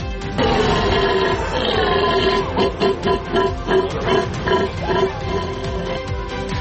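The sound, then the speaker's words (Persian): A hunter imitates a deer call at the 21st deer-call imitation contest in Belarus, where 39 hunters from 13 European countries competed, with loud, sustained, reedy bellowing tones that pulse in a rough rhythm, the pitch wavering slightly throughout. “و 39 شکارچی از 13 کشور اروپایی برای 21مین دوره مسابقات تقلید صدای گوزن در بلاروس رقابت کردند.”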